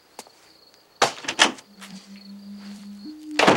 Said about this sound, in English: A face peeks out, then slams the door.